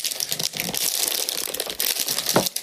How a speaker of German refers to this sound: Ja, ich wage jetzt. Ich muss die Aroma-Verschweißung des Tees öffnen.